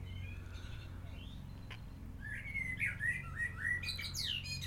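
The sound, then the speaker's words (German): A male Eurasian blackbird, perched on a roof, sings a series of fluting, warbling phrases that grow livelier toward the end, clear over a steady low hum of background noise. “Das war der Gastauftritt von der Amsel. Dem Amselhahn.”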